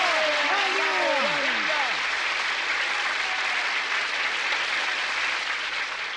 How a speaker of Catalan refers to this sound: Ha demostrat un gran valor. Saludem-lo amb un fort aplaudiment. Vinga, Yamcha!